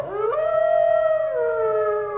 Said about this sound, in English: Hy het so irriterende toonhoogte, die wolf. Ja. Mens moet hom reg maak, dan hou hulle op hom so te huil.